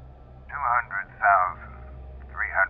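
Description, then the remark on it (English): A faint, thin, muffled voice comes through a small radio speaker in three short bursts, band-limited and tinny, over a steady low hiss and hum of static. “It was familiar in an oddly comforting sort of way, and it held my attention to the point I almost didn't hear the faint static sound coming from behind me.”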